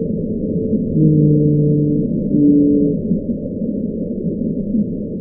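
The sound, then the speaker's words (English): A blue whale call, which can reach up to 188 decibels: low, sustained humming tones with layered harmonics, one long moan followed by a shorter, slightly higher note, set against a steady rumbling underwater background with no voices. “The lovelorn call of a lonely blue whale.”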